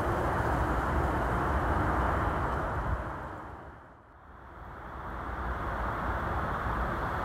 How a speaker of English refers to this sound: It's lovely to see the wildlife in action under the shadow of the thundering lorries going past on the M62 on my left-hand side.